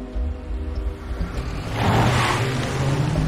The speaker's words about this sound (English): The car drives off.